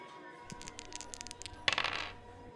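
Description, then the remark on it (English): Dice clatter across a hard surface in a quick run of sharp clicks, ending in a louder, denser rattle as they settle; this is the sixth roll, and it lands on a five. It is fairly quiet, and no one speaks. “Dice roll number six.”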